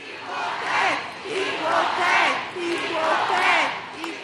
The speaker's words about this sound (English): Canyon of Heroes, Lower Manhattan. The confetti and ticker tape rained down today on the U.S. women's national team, and so did a by now familiar cheer.